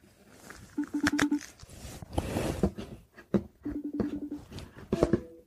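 phone call dialing tone

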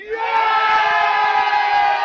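football fans cheering

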